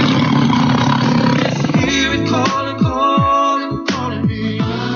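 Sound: tiger roar sound effect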